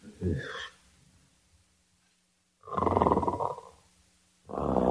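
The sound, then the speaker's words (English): Loud, rasping snores in three heavy bursts separated by quiet pauses, dominating the scene, each one a deep, rumbling drawn breath. “Oh, isn't that awful? Snoring already. Listen to that.”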